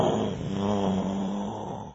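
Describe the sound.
A voice imitates a dragon snoring with one long, buzzy, rattling rumble that holds steady and loud for about two seconds, then cuts off abruptly.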